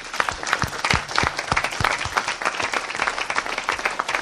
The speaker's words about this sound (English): So a big round of applause for them, please.